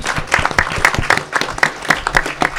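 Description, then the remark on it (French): An audience applauds itself in thanks steadily, a dense, continuous patter of many hands clapping at an even level throughout, with no voices standing out. “On va pouvoir s'applaudir parce que merci beaucoup, même pour ceux qui n'ont pas eu le micro, mais merci d'être là.”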